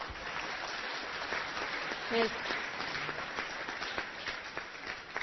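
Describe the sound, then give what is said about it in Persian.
Course participants applaud themselves after finishing their writing, in a steady, dense wash of clapping that holds at a fairly even loudness for several seconds, with a few voices briefly audible underneath. “دوستان عزیز یه درخواست ازتون دارم اگر تموم شده نوشتنتون یه تشویق بکنید خودتونو.”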